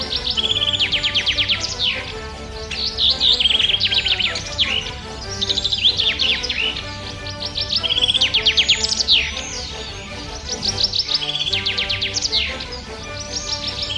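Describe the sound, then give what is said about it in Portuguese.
A bird named Lino sings continuously in bright, rapid chirps and rising trills, loud and lively, while flying back and forth above an audience and an orchestra, over a steady bed of sustained orchestral music with no one talking. “Lino ia de um lado para o outro voando por cima da plateia e da orquestra. Soltou a voz e ficou surpreso com a força de seu canto.”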